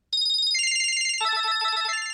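cell phone ringtone

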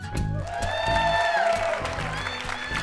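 audience applauding

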